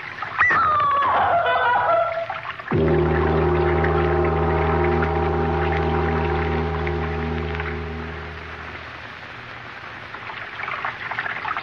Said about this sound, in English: Sound of water so loud.